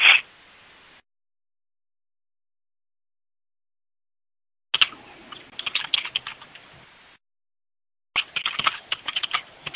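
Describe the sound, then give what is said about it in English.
Quick, uneven clicking of keys on a computer keyboard in two bursts separated by a long silence, fairly soft with a brief louder tap at the very start, as someone finishes typing a rough draft. “Yeah, I'm almost done typing it.”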